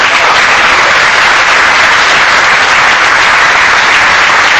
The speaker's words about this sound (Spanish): Ya está todo terminado. Un aplauso para...